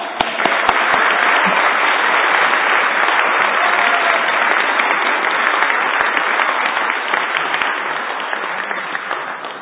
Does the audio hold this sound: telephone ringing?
no